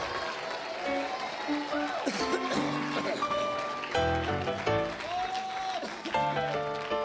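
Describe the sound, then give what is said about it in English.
An audience claps their hands unto the Lord steadily throughout, a dense wash of many hands, while organ-like music and raised voices carry on over the applause. “Now, if you believe God's going to answer that prayer, clap your hands unto the Lord.”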